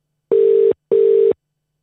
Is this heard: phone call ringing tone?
yes